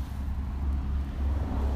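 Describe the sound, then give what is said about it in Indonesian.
A truck passes, giving a steady, deep engine rumble that holds at an even loudness for under two seconds with no voices over it. “Aduh, ada truk lewat.”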